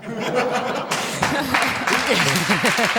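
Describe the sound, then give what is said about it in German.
An audience, mostly men, breaks into steady applause, dense clapping that swells after a moment, mixed with lively laughter and scattered vocal cheers throughout. “Da klatschen lauter Männer.”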